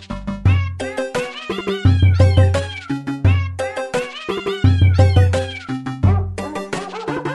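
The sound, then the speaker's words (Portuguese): Pitched cat meows, added to a video game remake's music, play a bouncy, repeating melody over steady low bass notes, the meows stacked in quick rhythmic phrases that loop several times. The sound is loud, with no talking. “Ah, bora pegar uns miados e latidos e bota aí na música.”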